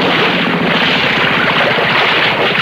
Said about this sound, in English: I'll idle the motor while you jump off.